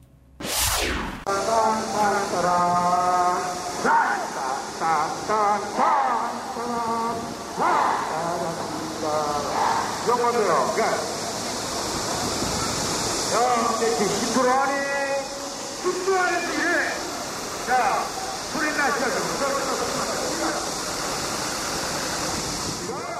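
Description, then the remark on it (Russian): Kim Il Sung Square in Pyongyang, North Korea, during rehearsals for the anniversary of the founding of the DPRK: many voices, including the show director's, rise and fall in chant-like phrases over a constant bright hiss, steady and loud throughout. “У нас послушаем звуки Пхеньяна. Записал их Александр Сырцов. Это была подготовка к юбилею образования КНДР на площади Ким Ир Сена.”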